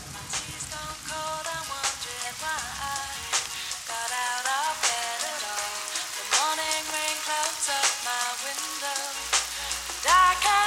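Steady rain patters and hisses throughout, a dense crackling wash beneath a soft sung melody with sustained tones playing from a car radio, constant in level.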